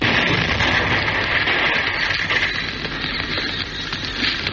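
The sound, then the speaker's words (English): A car exploding in a garage, with flames bursting through the roof: a loud, steady, rushing rumble with hissing and crackle that holds at full strength for several seconds, with no voices. “And suddenly, with a roar, a car in the garage exploded.”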